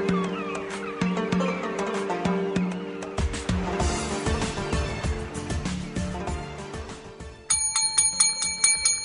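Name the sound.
bell ringing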